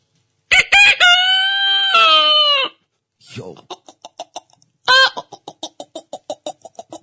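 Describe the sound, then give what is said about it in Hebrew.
A man, an animal-sound imitator performing live on Radio Kol Chai, loudly imitates a rooster crowing with one long, strained cock-a-doodle-doo, then follows with a quick run of rhythmic clucks. “מה את רוצה, תרנגול? תרנגול.”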